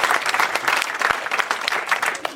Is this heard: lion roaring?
no